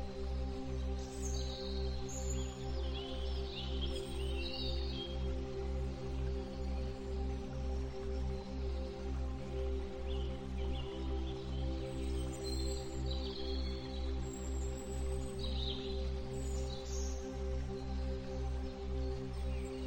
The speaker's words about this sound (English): You can hear the gentle rustle of leaves and the soft chirping of birds. You feel safe and peaceful in this garden.